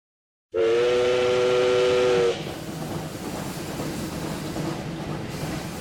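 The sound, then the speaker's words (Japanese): A loud, sustained steam whistle blows for nearly two seconds with a rich harmonic tone, then gives way to the steady rumble and chug of a train pulling away, with no voices. “列車は走り去り、ノブシの顔はすぐに消えた。ナミさんは呆然として行く汽車を見送る。”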